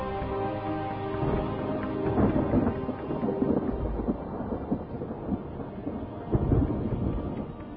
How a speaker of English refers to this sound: This was no minor disaster. This was a biblical scale catastrophe on our hands, and we were in the center of it here. This is the storm of the century.